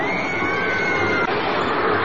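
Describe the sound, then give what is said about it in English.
A dense, steady roar of a large stadium crowd on the west side of a darkened stadium in Vancouver, British Columbia, many voices blending into a continuous wash of noise with faint shouts rising now and then, loud and unbroken throughout. “The noise is just a crowd on the west side.”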